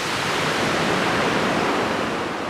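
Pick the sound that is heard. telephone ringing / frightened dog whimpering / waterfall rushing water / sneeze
waterfall rushing water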